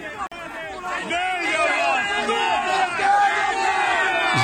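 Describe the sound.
A large crowd of fans chanting and shouting at police lined up beyond a gate, many voices overlapping in a loud, continuous roar of rising and falling cries that holds steady throughout with only a brief dip at the start.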